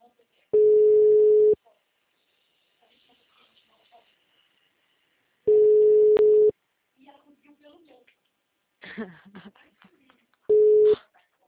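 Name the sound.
telephone line tones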